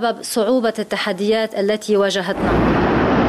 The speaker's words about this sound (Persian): آغاز وضعیت کنونی انفجار بزرگ انبار حاوی 2750 تن نیترات آمونیوم در بندر بیروت بود. انفجاری که نیمی از پایتخت را ویران کرد و بیش از 300 هزار نفر را بی خانمان.